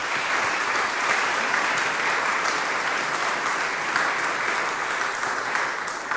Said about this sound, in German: Einen großen Applaus für Andreas.